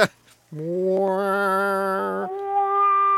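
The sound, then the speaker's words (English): A single voice imitates a car noise that sounds like a cat meowing: one long, loud, drawn-out tone that holds steady for about two seconds, then steps up to a higher pitch before ending. “Sounds like cats meowing.”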